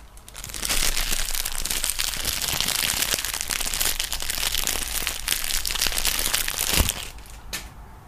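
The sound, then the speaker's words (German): Continuous crinkling of a plastic Tempo tissue pack, dense crackly rustles running for several seconds with a sharper crunch near the end before it tapers off. “Das war nur ein Tempopackung.”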